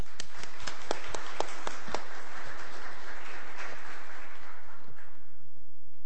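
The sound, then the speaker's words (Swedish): An audience applauds to thank a presentation, a dense wash of many hands clapping with a few sharp, distinct claps standing out at the start, holding steady for about six seconds with no one speaking. “Jag tycker vi börjar med att tacka den presentationen med en applåd.”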